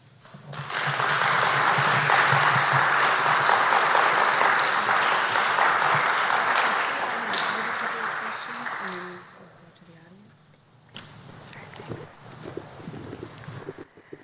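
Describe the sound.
A crowd applauds an ambassador at a Global Minnesota event, steadily for several seconds, a dense wash of clapping that gradually fades, followed by quieter scattered claps and faint murmuring voices.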